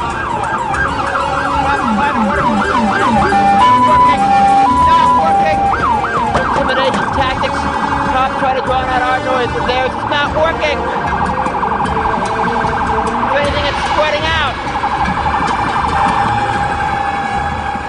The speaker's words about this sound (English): There's the alarm going off.